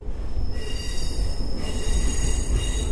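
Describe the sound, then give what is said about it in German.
Metal wheels squeal steadily on rails as a Tehran metro Line 1 train in Iran rolls through a tunnel, with high sustained screeching tones over a dense, loud low rumble throughout. “Räder auf Schienen, gleiten, reiben, quietschen, Tunnelfahrt einer U-Bahn.”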